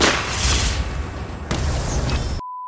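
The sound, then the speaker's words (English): A tree cannon firing in an Arbor Day radio promo from 91.5 WRFT: a loud cannon blast roars and rumbles, then a second booming shot follows partway through before the noise cuts off abruptly, leaving a brief steady electronic tone. “Is that a tree cannon?”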